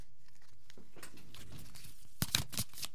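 Quiet riffling and soft papery rustles build over a few seconds, ending in a couple of sharper snaps as a Tales of the Mystical Cats card deck is shuffled; no one speaks.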